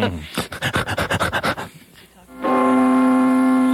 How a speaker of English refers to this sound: this music and the bell ringing, of course, means we're back up to commercials.